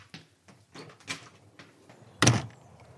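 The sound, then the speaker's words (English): A door is opened to step outside onto a doorstep, with a cat sitting right in front of it: a few soft clicks and rattles from the handle and frame, then a louder, brief scraping thud as it swings or slides. No one speaks. “On that note, I'm going to step outside.”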